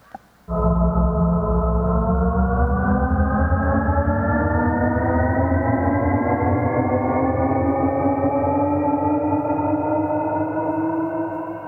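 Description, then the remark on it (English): A car accelerating, heard as a loud, continuous humming drone rich in tones, its pitch climbing slowly and steadily for about eleven seconds with no speech. “And now I'm going to play a sample how the sounds evolve when the car is accelerating.”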